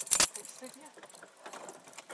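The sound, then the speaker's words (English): A sharp metallic burst at the start as keys clink while being handed over, followed by softer rattling and a faint background murmur of voices. “here's your keys.”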